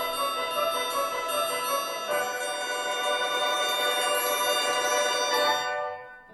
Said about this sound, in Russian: Вдруг раздался звон серебряный.